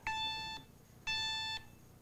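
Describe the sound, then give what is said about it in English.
Two loud electronic alarm beeps from a glucose monitor signalling low blood sugar, each about half a second long with a pause between, bright and harmonic, with no talking. “Turn the alarm off. No, it's not an emergency yet.”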